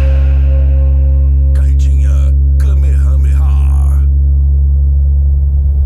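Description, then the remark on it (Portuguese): A heavy, deep bass boom throbs loudly and continuously throughout, with a brief burst of voice-like sound passing over it in the middle. “O verdadeiro pancadão é o deslocamento brutal de massa de ar.”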